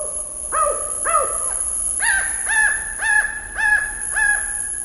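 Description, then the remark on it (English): Two endangered spotted owls in a park, caught by a solar-powered recording station, call back and forth: a lower voice gives three arching hoots, then a higher voice answers with five quick, evenly spaced whistled calls, clear with no talking. “One of his microphones caught this conversation between two endangered spotted owls.”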